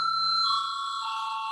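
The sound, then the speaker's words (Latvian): A parliament voting bell, called for before a vote on debate time at the second extraordinary sitting of 16 April 2020, rings as a steady, bright electronic tone with high overtones, holding for over a second with slight shifts in pitch. No one speaks. “Lūdzu zvanu.”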